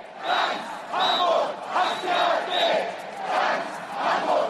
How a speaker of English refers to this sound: Well, protesters there shouting, "All of Hamburg hates the AfD."